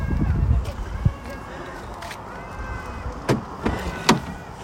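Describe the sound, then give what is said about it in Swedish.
Someone settles into a car amid rustling and shuffling, with a few muffled thumps as a car door shuts, over a low background hum. “Ett ögonblick, jag är snart inne i bilen.”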